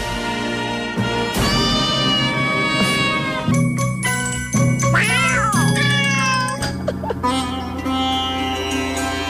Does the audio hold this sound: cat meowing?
yes